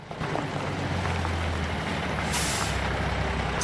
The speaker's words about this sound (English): A large truck approaches the closed metal grill gate, which provides access to the garden and yard. Gina approaches the gate and opens it as the truck halts just outside.